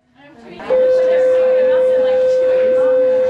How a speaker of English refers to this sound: When class is over, the sound of the school bell makes many students happy.